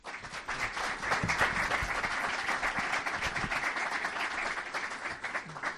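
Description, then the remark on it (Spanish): An evening event audience breaks into steady applause to welcome the speakers before a round-table discussion, a dense wash of many hands clapping at a fairly even loudness for several seconds, with no voices rising above it. “Les doy las gracias de nuevo por estar con nosotros en esta noche y recibamos ya a los intervinientes con un fuerte aplauso.”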